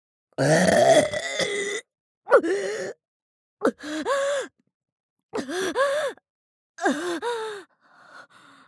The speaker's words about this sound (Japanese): 限界までこらえていますからね。胃の中と喉が震えて限界が来るまで。もうダメ。出る。ザーメンゲップ出します。